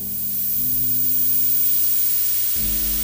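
Loud, steady static hisses continuously from a bedroom TV that has turned on by itself, a bright wash of noise with a faint low electrical hum underneath that shifts slightly near the end.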